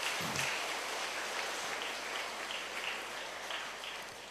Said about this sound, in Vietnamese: Tràng vỗ tay của quý vị cũng khép lại chương trình pháp thoại hôm nay trong ngày rằm tháng giêng xuân Đinh Dậu.